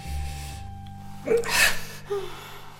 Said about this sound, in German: Ich weiß nicht, die Frau atmet. Sie schläft.